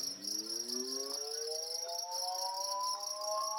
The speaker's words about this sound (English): crickets inside.